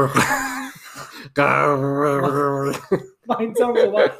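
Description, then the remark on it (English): A voice imitates a Chewbacca growl: a short warbling cry, then a long, loud, wavering howl lasting over a second, followed by a few rougher, broken bursts. “I can make the Chewbacca noise”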